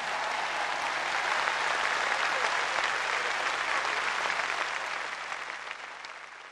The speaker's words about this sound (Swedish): Och ytterligare jubel omfamnade påven när han läste en Ave Maria på sardiska.